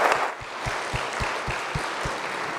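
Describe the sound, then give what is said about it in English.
An audience applauds the children steadily, a dense crackle of many hands clapping that holds at an even, fairly loud level, with a regular low thump pulsing underneath throughout. “and I want you to, if you would, join me, give the children one more round of applause as they did a wonderful job tonight.”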